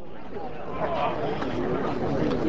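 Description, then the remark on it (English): A crowd of union workers gathered outside the union hall, a few miles from the Finch Prine paper mill in New York, their overlapping voices forming a steady, low murmur of chatter with no single speaker standing out, holding an even moderate level throughout. “A few miles from the Finch Prine paper mill, a crowd of men gathers outside the union hall.”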